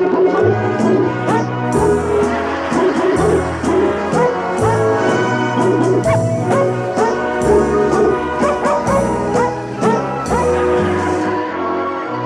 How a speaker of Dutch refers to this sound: Dames en heren, het hondenkoor. En wat gaan ze zingen? Happy birthday. Happy birthday. Ah, wat leuk. Het hondenkoor, dames en heren.